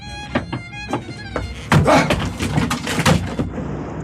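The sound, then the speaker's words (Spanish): A door on a barge being forced open: a run of heavy thuds and cracking bangs building over a few seconds, with a faint tonal hum beneath and no talking. “La puerta ya está abierta.”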